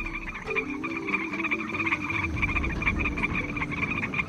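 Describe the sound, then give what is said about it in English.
A dense chorus of frogs croaking continuously, many voices overlapping in a steady, rhythmic pulsing drone, with higher trilling calls layered above deeper croaks and no talking. “Why are so many species of frogs and toads disappearing?”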